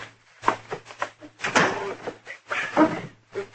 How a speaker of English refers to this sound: I just want to lock the door out back here.